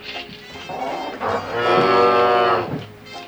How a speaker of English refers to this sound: You know, it really is great in having a cow in here, even though he takes up a lot of room. At least we get fresh milk.